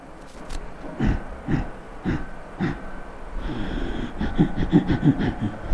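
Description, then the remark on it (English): Slow, audible pranayama breaths, regulated through the throat without touching the nose, with a rough, constricted throat hiss, pulsing roughly once a second before becoming a steadier, raspier stream of airflow; moderately loud, no talking. “There is a way of regulating your breath by utilizing this portion. Not this way. Here. Increase this volume a little.”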